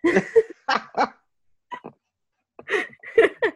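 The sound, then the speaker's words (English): A person imitates a dog, letting out a series of short, loud barking yelps in uneven clusters with brief silent gaps between them, with no other sounds. “First, you barked at me.”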